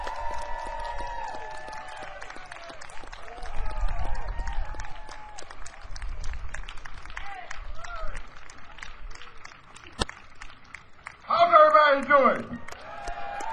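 An audience applauds with a dense, steady patter of clapping, mixed with scattered cheers and shouts. A loud whooping cheer rises near the end before the clapping carries on.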